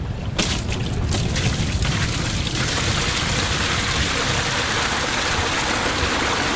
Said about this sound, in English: You really want to put that much water in there.